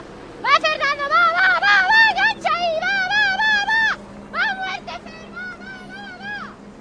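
At a triathlon, a spectator yells loud, high-pitched shouts of encouragement to Fernando Alarza as he arrives with the bike, in several long, wavering bursts with brief pauses between them, over a low background rumble.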